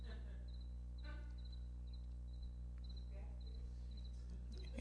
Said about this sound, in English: It's probably befitting, because some of the things I'm going to say tonight, that's all we're going to hear is cricket.